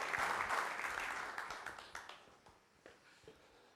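Audience applause, a dense wash of many hands clapping that is strongest at the start and gradually thins out into scattered individual claps as it fades.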